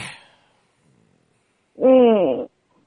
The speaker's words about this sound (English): You're making me yawn.